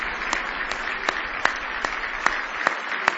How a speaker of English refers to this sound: Now give the Lord a real big hand clap of praise if you love Him today. Hallelujah.